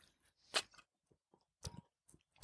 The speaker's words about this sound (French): Juste avant de faire ces engagements, je mets une petite gorgée d'eau.